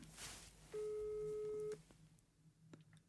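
A telephone ringing tone sounds once as a call is placed to Espen Graff, communications chief of the Norwegian Ski Federation (Skiforbundet): a steady, mid-pitched beep lasting about a second, loud over faint background noise, followed by quiet.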